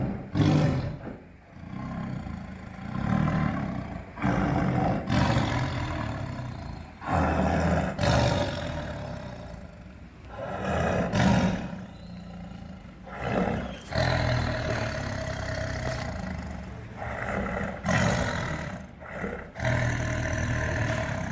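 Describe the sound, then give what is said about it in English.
A tiger roars repeatedly and loudly, deep rumbling bursts rising and falling every few seconds with heavy low-end power, close and sustained with no voices. “It's actually the infrasound roar.”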